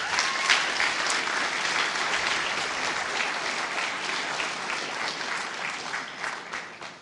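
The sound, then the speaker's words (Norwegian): Sustained applause from a large audience, steady dense clapping for several seconds at moderate loudness, with no voices speaking over it. “Vil dere gi det en stor applaus?”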